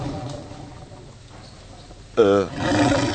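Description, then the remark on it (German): A loud, deep stomach growl from hunger erupts suddenly after a quiet stretch, a wavering rumble that lasts about a second before trailing into a rougher, noisy grumble. “Nee, mein Magen, ich hab Hunger.”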